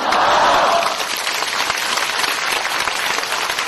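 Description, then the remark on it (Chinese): An audience at a Buddhist teaching talk claps steadily for several seconds, a dense, even patter of many hands with a brief burst of cheering voices at the start and no talking over it. “鼓掌的人都是有希望的。”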